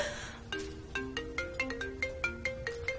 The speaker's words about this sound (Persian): تلفن ببین کیه؟ از کارخونه است.